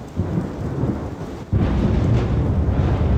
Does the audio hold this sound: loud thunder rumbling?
yes